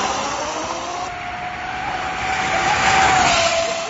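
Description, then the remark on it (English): An all-electric go-kart that looks like a little Formula One car, driven by a delivery driver, accelerates with a steady high motor whine over a rough, hissing roar of tires squealing on pavement, growing louder toward the end, with no talking. “Acceleration on electric is crazy.”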